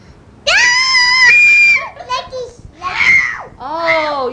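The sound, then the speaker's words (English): A child lets out a loud, shrill scream, one long piercing cry followed by a few shorter high-pitched squeals and wails. “Scream. Yes.”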